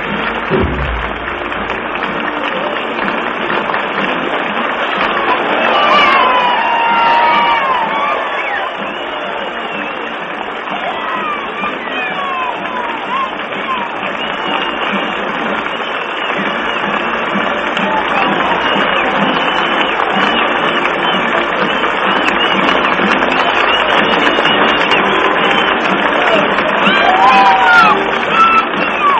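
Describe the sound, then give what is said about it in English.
A large crowd applauds and cheers as the president enters the room, a loud, steady roar that lasts the whole half minute, with scattered whistles and whoops rising above the dense clapping. “That's anticipatory applause.”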